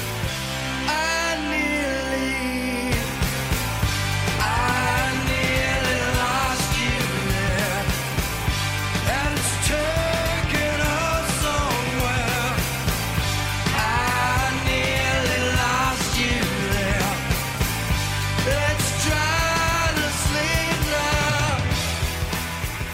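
A 1990s alternative rock song plays loud and up close, opening with a brief sparse intro before the full band crashes in with dense guitars, steady drums and a sung vocal line.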